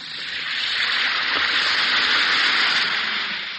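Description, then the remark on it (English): An Alka-Seltzer effervescent tablet fizzes in water, a steady, bright crackling hiss that swells slightly and holds for a few seconds with no voices over it. “Listen to it fizz.”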